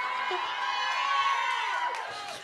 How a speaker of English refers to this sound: I can't argue with screams